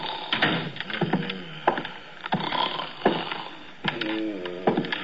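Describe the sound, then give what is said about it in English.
Loud, rough snoring in a series of uneven, rattling snorts and gurgling breaths, performed by a voice, with no speech, from a police sergeant tilted back in his chair in a squad room with his feet crossed on the desk. “From the sounds he was making, he was either sleeping or gargling with molasses.”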